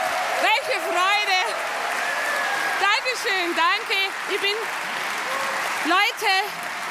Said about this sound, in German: Für Sie mit einem frenetischen Applaus begrüßen Sie die Mama Bavaria, Luise Kinseher!